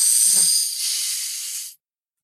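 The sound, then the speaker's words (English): A single long, deep inhale, the deepest breath the person can take: a loud, airy rush of breath that holds steady for nearly two seconds before cutting off abruptly, with no talking over it. “So what's the deepest breath you could take? Like the deepest inhale?”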